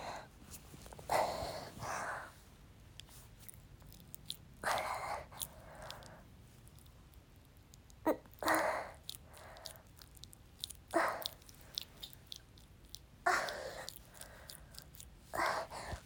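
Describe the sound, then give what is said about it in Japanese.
Wet squishing and squelching sounds from a new dildo with a clitoral suction function being used in a wet vagina repeat in irregular bursts, moderately loud, separated by short quiet gaps. No one speaks. “クチュクチュ音聞こえますか？”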